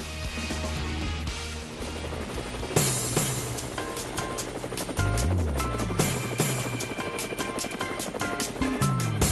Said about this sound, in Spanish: Bueno, llegó el helicóptero.